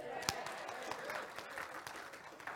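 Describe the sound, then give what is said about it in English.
A crowd applauds someone's 26 years in Perth, with many hands clapping in a dense, steady patter and a few sharper claps standing out, sustained throughout at moderate volume. “Even 26 years deserve a clap.”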